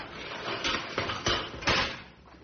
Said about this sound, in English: Get ready to open the cage door. My whip's just over there, and I'm going in. Okay. Whenever you're ready, now. Open the cage door, Sam.